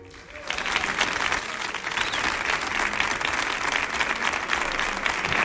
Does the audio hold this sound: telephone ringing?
no